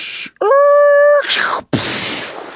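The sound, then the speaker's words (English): A voice imitates a car accident: a steady, high tire-screech whine held for about a second, then a rough, hissing crash burst after a brief gap, with no spoken words. “Each box set includes sounds like car accident.”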